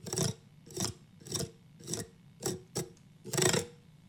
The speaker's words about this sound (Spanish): Te espié. Es el respaldo de la silla del comedor.